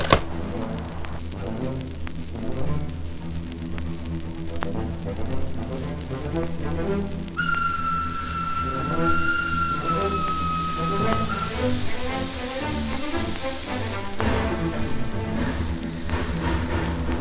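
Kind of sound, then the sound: ambience, train station ambience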